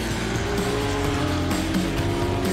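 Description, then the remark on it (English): A 1964 Ford GT40 Mark I, one of the five original prototype Le Mans race cars, drives with its engine droning steadily, a loud, rumbling low tone and shifting harmonic pitch, sustained throughout with no talking. “Featuring one of the most legendary cars in the history of the 24 Hours of Le Mans, the Ford GT40.”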